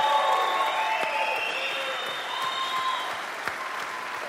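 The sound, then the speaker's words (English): Sustained audience applause for a team of panelists, a dense, steady wash of clapping with a few louder individual claps, holding fairly even in loudness before easing slightly toward the end. “Once again, with all the panelists in place, let's put our hands together for a rambunctious applause, if you will, for this amazing team.”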